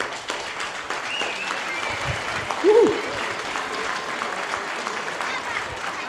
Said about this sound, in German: Applaus bitte.